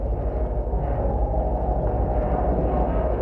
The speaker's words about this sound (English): This is the sound of a bronze window screen outdoors on a cold March day. You can hear the wind, but you also hear this little tinkly-like sound, which is the metal mesh simply rubbing against itself.